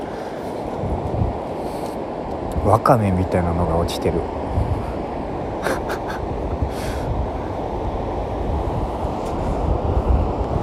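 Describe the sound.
Steady seaside ambience with a broad, continuous wash of ocean surf and wind rumble filling the whole stretch, while a person speaks briefly over it partway through.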